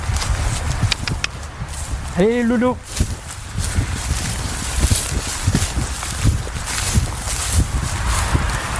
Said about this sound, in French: C'est donc naturellement qu'il nous a donné rendez-vous dans les champs, là où s'ébrouent deux chevaux, des frisons, qu'il a recueillis après un sauvetage par l'association dont il fait partie